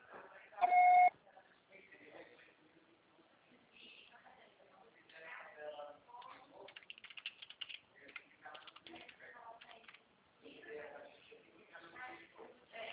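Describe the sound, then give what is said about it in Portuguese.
An answering machine beep after a Portuguese recorded greeting asking the caller to leave a message: one loud, steady, mid-pitched tone lasting about half a second near the start, followed by a stretch of people talking. “Grave seu recado. O pessoal será tarifado após o sinal.”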